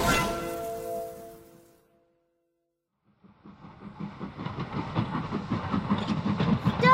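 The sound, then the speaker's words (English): A train leaves the station and runs along the tracks: after a fading horn-like tone and a brief silence, a rhythmic rumbling clatter starts up and grows steadily louder, with no talking. “Run and stop the train!”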